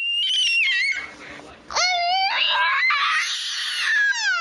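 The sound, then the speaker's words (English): A child screams shrilly and loudly, a long wavering shriek that dips briefly, then surges back into a second sustained, piercing wail with a rising, warbling pitch. “And this week, we're talking about the look, meaning the one a parent on an airplane or in a fancy restaurant gets when their child makes this charming noise.”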